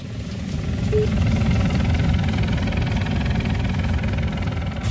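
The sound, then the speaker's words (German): A helicopter arrives, its heavy, continuous low rumble swelling briefly at the start and then holding loud and steady, with no one speaking. “Aber jetzt höre ich gerade, da kommt er.”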